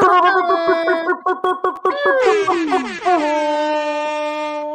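A voice imitates an air horn: a run of short, choppy honks, then a long, loud blast that bends downward and settles into a steady held tone until the end.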